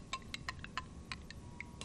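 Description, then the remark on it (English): A spoon briskly stirs Coca-Cola syrup and carbonated water in a glass, giving a quick, uneven run of about eight light, ringing clinks over a soft background hiss. Fairly quiet, with no talking. “Give it a quick stir,”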